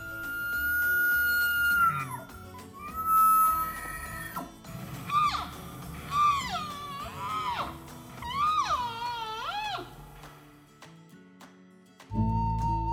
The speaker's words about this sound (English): You may also hear them vocalizing during rut. Males make a bugle sound, and females bark in reply.